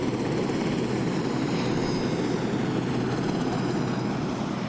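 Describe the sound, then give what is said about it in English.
A Sea King HC4 helicopter, the 'jungly', being retired, roars steadily overhead, its engine and rotors forming a dense, even drone with a faint high whine, holding constant loudness throughout with no voices. “And what a sad sight to see the good old Sea King, the HC4, the jungly, being retired.”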